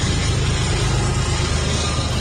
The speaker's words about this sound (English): Sounds like a train going by. Freight train. Huh. We need to soundproof this studio a lot better.